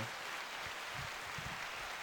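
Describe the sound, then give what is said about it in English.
A canned applause effect, triggered by pressing a button, plays: a dense, steady wash of clapping with no breaks or swells, holding at an even level for about two seconds with no voices over it. “I hit the applause button.”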